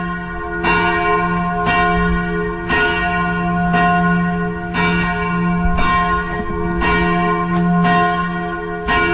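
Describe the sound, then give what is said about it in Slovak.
A large old church bell, one of the oldest bells in the Liptov region, tolls steadily in a church tower, roughly one strike per second, each loud, ringing stroke overlapping the long humming resonance of the last, with no voices present. “Cennejší bol kvôli tomu, že je jeden z najstarších zvonov na Liptove.”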